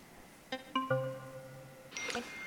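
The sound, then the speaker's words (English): An iPhone text message alert as the phone receives an SMS: three quick ascending chime notes ringing out one after another and sustaining, then a brighter, shimmering tone near the end. No one speaks. “Okay, that was my iPhone just received the message.”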